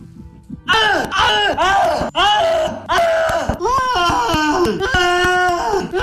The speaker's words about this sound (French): Ensuite, il continue à peindre en hurlant de tristesse plutôt et de regret.